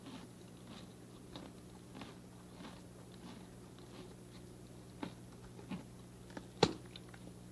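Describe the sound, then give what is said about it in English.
A horse chews carrots, with steady rhythmic crunching over a low background hum, and a few sharper, louder bites near the end. “He waits till it's all chewed, doesn't all he, before chewed. He takes the next bite.”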